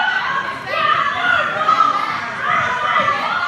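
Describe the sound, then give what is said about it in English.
A protest crowd inside a public school polling place in Manhattan, New York City, many voices shouting and chattering over one another in a steady, loud din with no single speaker standing out. “That's a protest inside that school.”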